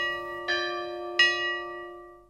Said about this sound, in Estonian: Keset külä, kirikukellad löövad ja kutsuvad inimesi palvustele, seda ka hingede ajal ja hingede päeval.